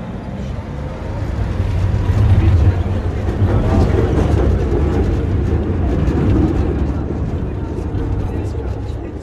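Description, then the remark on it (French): A tram rumbles steadily as it leaves the centre of Sarajevo, a deep, continuous mechanical drone with rattling undertones that holds an even loudness throughout, with indistinct voices murmuring underneath. “Voilà, nous reprenons le tramway pour quitter le centre de Sarajevo.”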